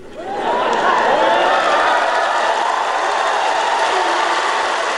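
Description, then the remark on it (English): A crowd of troops cheers and shouts loudly for Joe Biden on his arrival in Europe, the roar swelling in within the first half-second and holding steady, with individual whoops rising above the dense wash of voices. “The troops cheering for Joe Biden there upon his arrival in Europe and his promise to tell Putin what it is he wants him to know, whatever that may be.”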